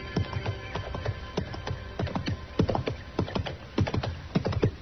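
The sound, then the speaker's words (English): Horse hooves clop along a trail in a steady walking rhythm, a long run of sharp thuds at moderate loudness, with no voices. “And just then I heard a horse coming along the trail and I stepped back and waited.”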